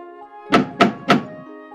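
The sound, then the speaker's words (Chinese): Three firm knocks on the wooden door of Owl's house in a steady rhythm, fairly loud, with a soft musical tone lingering underneath. “不过等一会儿却没有人出来开门呢，所以他们又继续地敲门。”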